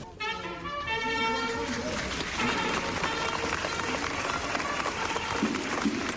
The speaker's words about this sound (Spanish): y este era el emocionante momento en el que un nazareno daba las instrucciones a los portadores y una vez en la calle la gente no pudo contener el aplauso.